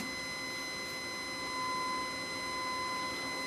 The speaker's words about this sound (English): Now, you may be hearing some other tones in there now that are not 1,000 hertz. And what that is the harmonic distortion that's coming from this box because we're listening to the output.